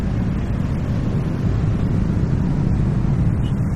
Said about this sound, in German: Deshalb verlassen wir das Flussufer und gehen zur nächsten Stadtautobahn. Plötzlich ohrenbetäubender Lärm. Limousinen, Laster, SUVs und Motorrikschas rauschen auf 6 Fahrspuren vorbei.